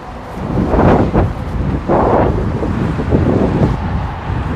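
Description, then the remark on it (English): Strong wind buffets the microphone outdoors on a snowy hill, a loud, continuous low rumble with gusty surges that swell and ease over a few seconds, no voices heard. “Until I get to the top of this hill, I feel like I'm feeling more wind.”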